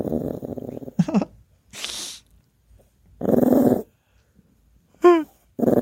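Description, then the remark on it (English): A dog grumbles in several low, throaty bursts separated by pauses after being woken and told to get up, with a breathy huff between them and a brief rising whine near the end. “Sorry, poor bud. Dog.”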